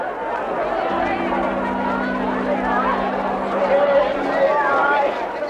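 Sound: crowd murmuring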